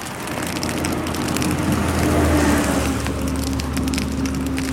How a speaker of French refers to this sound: Alors, c'est pas un grand incendie. C'est juste le bruit de l'Amazonie qui brûle. Inexorablement, le feu qui avance et qui progresse. Oula, je recule parce que ça redouble d'intensité.